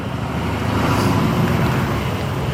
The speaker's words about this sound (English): Okay, I'm at the corner now waiting to cross to my building. And here we go. Crossing the street. Up the curb. Big truck on the left.